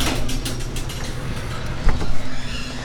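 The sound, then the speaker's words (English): A mechanical rumbling and rattling drone with periodic clicking, like a garage door rolling shut, ending in a heavier thud near the close before settling into a continued hum. “I shall close the garage door.”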